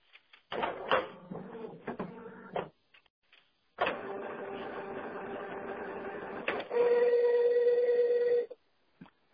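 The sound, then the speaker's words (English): A noisy printer whirs and clatters, starting with choppy mechanical bursts, then a long steady grinding run ending in a sustained high motor whine before stopping abruptly. “I got the noisiest printer in the world.”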